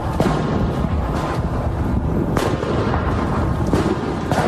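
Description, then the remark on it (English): Several sharp, booming bangs from fireworks and blast ball explosions go off at irregular intervals over a constant, loud rumble of wind and outdoor commotion, during a Saturday protest march that turned violent, with fires set and pepper spray, in the area formerly known as the Chop. “What started out as a peaceful march quickly went bad Saturday, with multiple fires set, businesses destroyed, and fireworks and blast balls, as well as clouds of pepper spray across the area formerly known as the Chop.”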